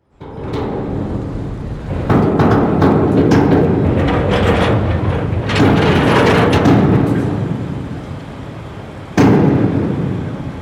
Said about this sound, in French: J'aimerais vous faire écouter tout de suite un extrait d'une dérive poétique et sonore d'Olivier April, qui a été réalisée pour Arte Radio, qui s'appelle « Les mots et les sons du port de Marseille ».